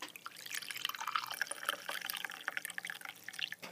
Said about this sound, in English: And now, for the moment of truth, we'll try and pour the tea out of the teapot.